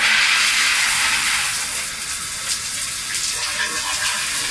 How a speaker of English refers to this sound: Hello, I'm going to run your shower now. Okay. I'm just going to run the water to make sure we have enough warm water.